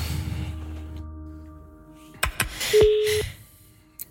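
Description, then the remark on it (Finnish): A telephone number is dialed to call the summer phone line of Radio Nova's summer morning show: a steady line tone, then a few sharp handset clicks and a brief electronic beep near the end. No one speaks. “Sitten olisi aika soittaa kesäpuhelimeen.”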